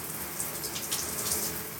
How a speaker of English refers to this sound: I do feel that the shower is taking forever to warm up.